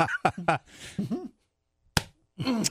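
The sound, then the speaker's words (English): A single sharp, crisp open-hand slap skims a man's face, ringing out loudly during a brief pause, with people talking just before and right after it. “I like the sound on that one. That was a good swack.”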